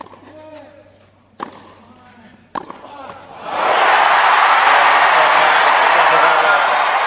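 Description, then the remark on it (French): A Wimbledon tennis crowd erupts into loud, sustained cheering and applause after two sharp hits, at the end of the match between Félix and Shapovalov, following a few seconds of voices talking quietly. “Ça donne des frissons, hein, la foule.”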